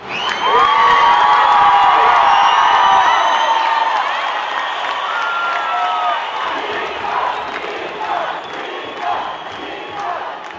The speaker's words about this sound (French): Et quand le résultat du vote s'affiche sur les écrans, une immense clameur s'élève de la place de la République.